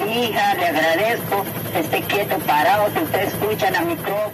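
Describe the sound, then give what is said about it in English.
A woman's recorded voice, the children's grandmother telling them to stay in one place to be found, blasts from loudspeakers on helicopters flying over a jungle search area, sounding distorted and radio-like over a steady low rotor and engine drone. The message is continuous and fairly loud throughout. “Meanwhile, helicopters flew over the area, blasting a message recorded by the children's grandmother.”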